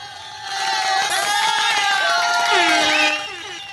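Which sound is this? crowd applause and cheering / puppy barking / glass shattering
crowd applause and cheering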